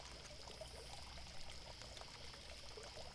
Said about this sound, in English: Oh, they have a water fountain here? I mean, it is pretty fancy, so I guess it makes sense.